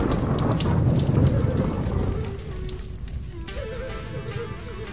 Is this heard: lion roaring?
no